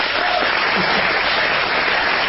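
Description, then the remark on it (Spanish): A steady burst of applause from a crowd, dense and continuous clapping at moderate loudness, with no speech standing out above it. “No aplaudan.”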